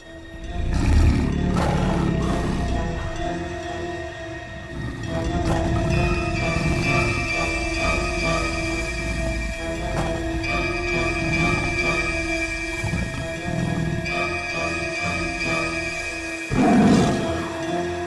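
A tiger roars and growls repeatedly, deep rumbling bursts rising and falling over a steady background hum, with a final loud roar near the end.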